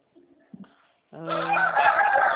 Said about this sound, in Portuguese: Olha os galos aí.